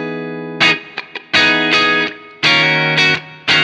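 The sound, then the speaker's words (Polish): Telecaster electric guitar through an overdriven Marshall Plexi tube amp, plugged into the lower-left, lower-sensitivity input with all controls set to 12 and the guitar's tone knob turned down: a few bright, crunchy chords struck in bursts, each ringing briefly with rich harmonics, with short muted pauses and quick scratchy strums between. “na Telecasterze wejście high treble i duża czułość jest zbyt jasne, dlatego wezmę sobie mniejszą czułość, wejdę na lewy dolne wejście”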